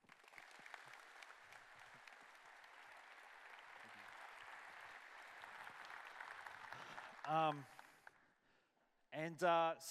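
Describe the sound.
Steady audience applause fills about seven seconds with dense, crackling clapping, then fades as a single voice begins speaking over the tail end.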